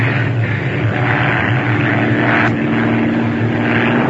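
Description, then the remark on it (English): A propeller airplane engine drones loudly and steadily, its throb rising slightly as the plane climbs up from 10 feet above the water through a sleet storm, with a constant buzzing hum and no voices. “Dive down to 10 feet above the water. Can't shake that sleet. Okay, up now.”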